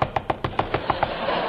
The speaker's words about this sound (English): Lieutenant Abbott and I arrived at Lil's hideout. I knocked on the door. I rang the bell.